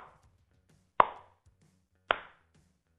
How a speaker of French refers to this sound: le clap que vous entendez, je l'ai récupéré d'une bande de son, d'une banque de son